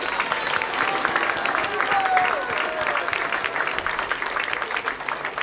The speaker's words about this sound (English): Give her a big round of applause,